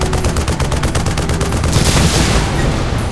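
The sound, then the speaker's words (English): A deck-mounted 40-millimeter machine cannon fires a loud, rapid burst of rounds at approaching speedboats, the steady hammering rhythm giving way to a broad roaring blast with no voices. “The SEAL rose to his position at the deck-mounted 40-millimeter machine cannon as the first of the speedboats raced toward them.”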